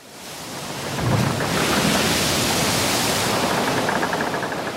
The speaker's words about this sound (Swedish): Havsnivån har höjts med över 2 meter och vattnet väller in över det låglänta Falsterbonäset längst ner i sydvästligaste Sverige.